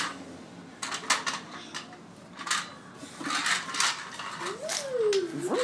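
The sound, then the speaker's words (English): A child plays with a toy truck: irregular plastic clacks, rattles and scraping bursts at moderate volume, with a short rising and falling high-pitched whine near the end. “Now he's playing with his truck.”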